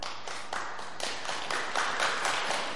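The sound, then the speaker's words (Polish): An audience, including people who walk with white canes, claps in a steady, dense patter of many hands, moderately loud and continuous throughout, with no talking over it. “Rozumiem, że klaszczą ci, którzy chodzą z białą laską”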